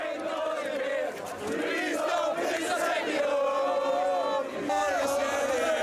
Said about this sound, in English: Singing and dancing and cheering. Well, those Welsh fans, they don't want to go home. They're ready to party even after that loss to Portugal.